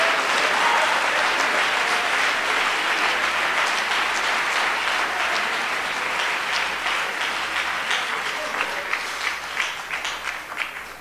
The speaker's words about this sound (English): We ought to clap our hands and thank God for the gospel.